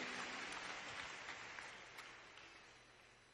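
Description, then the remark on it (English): An audience at a worship gathering clapping together as they take their seats, in a sustained, dense burst of applause that gradually fades over a few seconds, with no voices standing out. “And clap your hands one more time as you're seated in the name of the Lord.”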